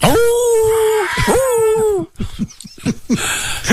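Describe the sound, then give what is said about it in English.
A voice imitating a small dog's whimper: two drawn-out, wavering whines, fairly loud, followed by a run of short, choppy yips and breathy squeaks. “How's the little dog sound out there?”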